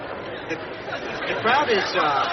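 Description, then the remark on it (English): A crowd of hundreds of people gathered outdoors for a Thanksgiving Day turkey event, chattering in a dense, steady murmur of overlapping voices, with a few individual voices rising more clearly above the babble toward the end. “I'm here with hundreds of people who have gathered to witness what has been described as perhaps the greatest turkey event”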